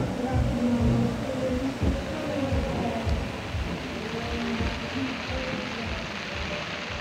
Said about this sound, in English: Fitting that you have rain ending this audio montage from the first day of Wakarusa. There's going to be more today, it looks like.